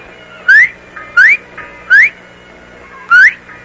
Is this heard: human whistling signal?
yes